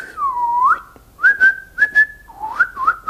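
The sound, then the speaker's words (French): A person whistles softly in a short, wavering tune of sliding notes, broken into several brief phrases with small pauses between them, with no talking. “Moi, j'ai toujours voulu être capable de siffler. Je suis capable de siffloter.”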